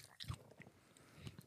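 A crisp bite into a sugary sweet with the back teeth, followed by a second crunchy bite and soft chewing, with faint breathy murmuring in the background.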